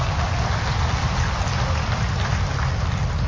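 Steady, dense applause from many hands, a continuous crackling wash of claps at even loudness throughout, with no voices standing out.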